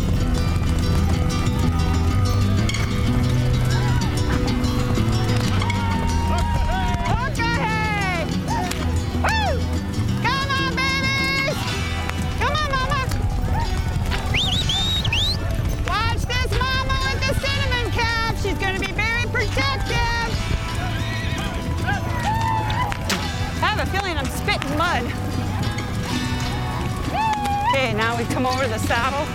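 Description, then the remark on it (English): A buffalo herd stampedes down a valley through dust and fog with riders on horseback, a loud, unbroken thunder of pounding hooves rumbling throughout, while wavering shouts and calls rise and fall above the din. “They run together, rolling, thundering down the valley.”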